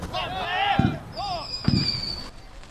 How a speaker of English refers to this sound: Members of Bravo Company of the 634th Brigade Support Battalion leave Tommy Stewart Field as fireworks go off in their honor.